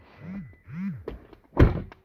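A door is pushed shut with a few light clicks and rattles, then slams closed with one loud thud. Two brief wavering tones come just before.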